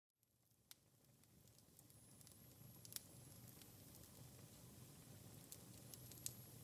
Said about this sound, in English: I lighted up the fireplace because I'm feeling a little cold.